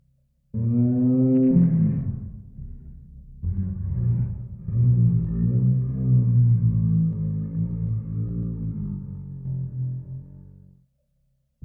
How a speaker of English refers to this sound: There was a low howl, mournful, I would say. It became louder, almost like a dying shriek, like an elk being garroted alive.